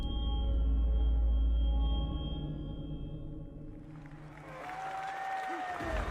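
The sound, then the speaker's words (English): Sustained droning tones give way to a wash of crowd cheering and applause from the BlizzCon audience at the Diablo 4 announcement in the second half, moderately loud and fairly subdued, with a high whistling tone gliding over it. “Die Crowd war auch schon mal gehypter.”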